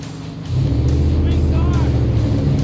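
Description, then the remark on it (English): The rebuilt Interceptor, the Mad Max car, cruises along a highway, its deep engine drone and rushing road noise swelling in after a brief moment and then holding loud and steady, as if heard from inside the vehicle. “The Interceptor always turns heads, even on the highway.”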